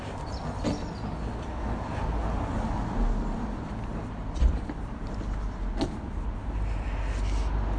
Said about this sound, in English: Gosh, I find it a bit hard to get used to this, the constant traffic. I think I'm going to go around the back where I'm further away from the street.